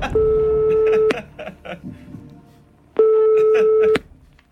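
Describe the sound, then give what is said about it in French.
Two steady electronic ringback tones, each about a second long with a pause between, sound clearly over a low murmur of background voices as a phone-a-friend call is placed on the quiz show Qui veut gagner des millions. “Bon, vous savez, vous avez encore tous vos jokers, hein, si vous voulez qu'on lance un coup de fil à un ami. Oui. Ok, alors on y va, téléphone.”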